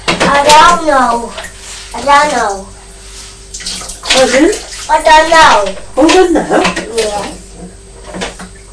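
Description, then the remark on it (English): Water trickles and splashes back into a bowl as a cloth used to mop up water is squeezed and wrung out by hand, fairly clear, while a young child's voice babbles and squeals over it. “Squeezing it, I'm wringing it out. So that the water goes back into the bowl.”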